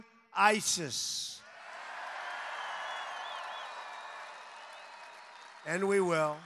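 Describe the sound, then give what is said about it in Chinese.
A large crowd of Trump supporters cheers and applauds steadily for about four seconds at a rally on his post-election thank-you tour, as Trump introduces his defense secretary nominee, retired general James Mattis. A few whistles rise above the roar, framed by brief bursts of a man's speech before and after. “川普向欢呼的支持者们介绍了他提名的国防部长人选，退役将军、绰号“疯狗”的詹姆斯·马蒂斯。”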